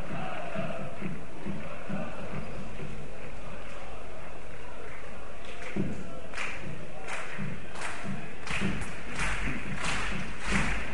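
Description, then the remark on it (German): Rhythmic clapping from the stands at a WSV football match rises out of a steady crowd murmur. The claps land in an even beat that grows louder and more unified toward the end. “Rhythmisches Klatschen hier nochmal von der Tribüne.”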